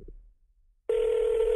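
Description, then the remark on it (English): After a moment of near silence, a steady electronic telephone ring tone of an outgoing phone call cuts in abruptly and holds at an even, fairly loud level, without any voices; the call goes unanswered. “She's not answering her phone.”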